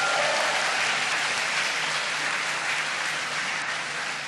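An audience applauds steadily for the Queen, a dense wash of many hands clapping at an even, fairly loud level throughout, fading only slightly toward the end.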